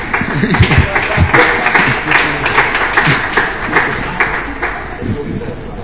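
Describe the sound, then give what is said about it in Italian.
An audience applauds steadily for about six seconds because a program does not work, a dense patter of many hands with crisp clap transients. A murmur of voices runs underneath, and the clapping thins slightly toward the end. “Applaudono perché un programma non funziona.”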